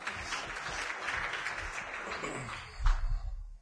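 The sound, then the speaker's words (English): An audience claps steadily for a gentleman in the back for a few seconds, a dense crackling wash of many hands that swells briefly near the end before fading out. “Please applause for the gentleman in the back.”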